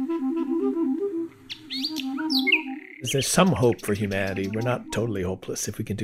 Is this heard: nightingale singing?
yes